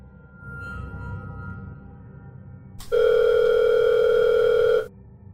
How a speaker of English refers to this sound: His phone was ringing, and I saw its screen show an unknown caller ID.